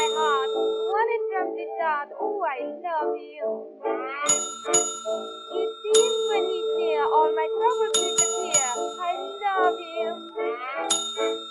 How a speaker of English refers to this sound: Two dings is quite enough. Sorry? You ding the bell once, leave an appropriate amount of time for one to traverse the distance from the back. Once the time has elapsed, you may ring a second time